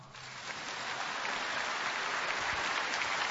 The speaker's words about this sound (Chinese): 好了，鼓掌。